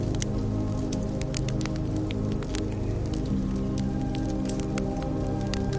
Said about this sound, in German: Kannst du zum Beispiel das leise Rauschen des Wassers hören?